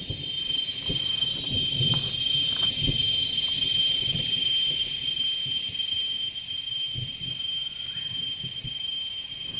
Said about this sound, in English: on the Sakanya River in Borneo. A storm is coming through, and as the storm approaches, the insects and birds quiet down. As the storm quickly passes, they reemerge, and the birds you hear are ashy tailor birds, hornbills, white-crested hornbills.